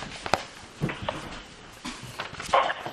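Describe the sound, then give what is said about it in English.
A dog whines and whimpers in short, high-pitched bursts, with a couple of soft yips, moderately loud, wanting to be petted, with no one talking. “There's between one and three dogs wanting to get petted at any given moment when I'm sitting here.”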